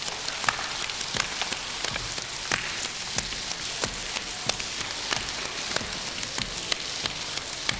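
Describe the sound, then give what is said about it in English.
A group at Augusta clapping lightly and unevenly together in a simple sideways clapping style with loose hands, making a dense patter of soft, crisp claps much like rain, with sharper claps popping out now and then. No one speaks. “And I'm going to start you off with a real easy, simple little sideways clapping.”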